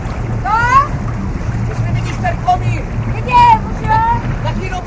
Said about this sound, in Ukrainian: Від невеликої театральної студії на березі Вльтави річкою вирушили три катери із глядачами і акторами.